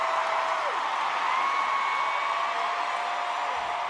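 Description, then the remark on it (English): A large, packed audience of fans applauds as a song ends, in a steady, dense roar of clapping and cheering, with a few high whistles sliding over the noise throughout. “Fans applaud in the packed audience.”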